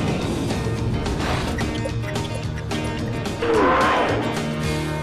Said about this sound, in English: John concentrates as he approaches Sea Dock and slams on the brakes. The ship docks perfectly.